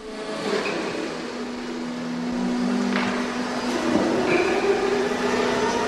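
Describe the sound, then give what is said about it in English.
A working forklift truck hums and whirs steadily in a spirit store warehouse in Middleton, a constant low motor tone with broad mechanical noise and a few brief clanks and whines rising over it; no one speaks. “So our next call in Middleton was to a warehouse where, against a background of a working forklift truck, we talked to spirit store and warehousing manager”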